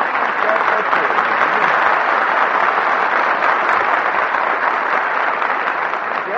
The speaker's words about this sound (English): I just start applauding myself when I'm finished